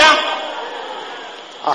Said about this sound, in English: There is a slapping sound now.